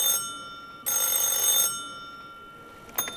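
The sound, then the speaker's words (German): An old mechanical telephone bell on display in a museum rings in bright, rattling bursts: a short ring, a pause, then a longer ring that fades, ending with a small clink. Fairly loud, no voices. “Vor allem die Telefone wecken bei Besucherinnen und Besuchern des Museums Erinnerungen.”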